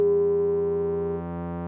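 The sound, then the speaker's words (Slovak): A steady, sustained electronic tone for the shield item in a video game hums alone for under two seconds. The synthetic tone has layered harmonics and dips slightly in pitch toward the end. “Toto je štít. Ten súvislý tón, ktorý sme počuli.”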